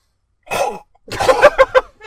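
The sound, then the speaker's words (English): A voice imitates a Godzilla roar: a raspy, throaty growl, a short pause, then a louder gravelly burst that breaks into several rough pulses. No words are spoken. “That's my Godzilla sound.”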